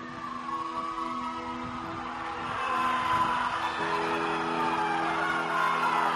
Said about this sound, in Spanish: Este es el Parque Mediterráneo, escucharlo el jolgorio, los silbidos de la gente en sus hogares viendo el fútbol y los pitos de fondo, porque el Real Madrid ha ganado la Champions en este caso.